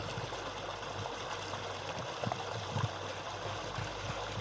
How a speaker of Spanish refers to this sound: Necesito vivir en mi pueblo, Torrejoncillo, porque aquí siento que de verdad he echado raíces. Uno de los sonidos que más me gusta del lugar en el que vivo es el del agua.